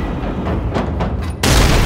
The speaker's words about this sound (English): Risking a stray bullet, he re-engages the locking sequence and puts a bolt round into the panel before he leaves.